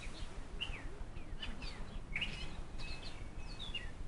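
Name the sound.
sparrows chirping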